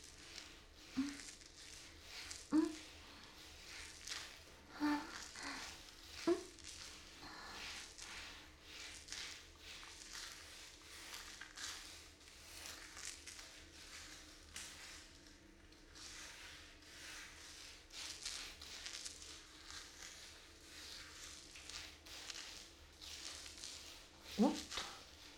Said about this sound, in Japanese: このボディブラシ気持ちいいな。ブラシの部分が波形になってて、肌に当たってる時の感覚が心地いいよ。